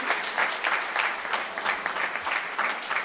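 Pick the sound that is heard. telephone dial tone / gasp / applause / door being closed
applause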